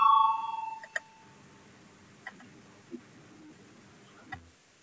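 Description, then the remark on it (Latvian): A loud electronic bell tone rings at the start of a vote in a parliament session and fades within a second, leaving near silence broken only by a few faint, scattered clicks. “Lūdzu, zvanu balsosim par 227. deputāta Lucāna iesniegto priekšlikumu.”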